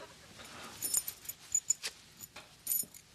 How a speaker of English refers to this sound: Keys.